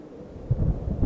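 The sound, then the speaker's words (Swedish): Wind rumbles low and steady on an evening, surging stronger halfway through and staying blustery to the end, with no voices present. “Blåser kväll, va?”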